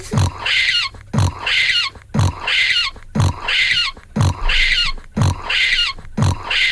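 A recorded pig, played on Bon Radio, grunts and oinks six times in a steady rhythm, about once a second, each call loud and squealing with a rough, nasal edge, with no talking over it.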